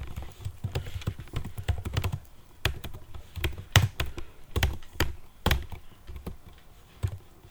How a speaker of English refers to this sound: Hello, typing like a maniac.